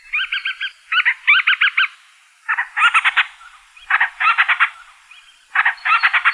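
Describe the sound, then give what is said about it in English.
Band-rumped storm petrel (Akeake) calls at a breeding colony: about five bursts of rapid, pulsed, squeaky chattering notes with short pauses between, fairly high-pitched and loud, with no voices or other sounds. “One of the best ways to find them is to listen for their calls around their breeding colony at night.”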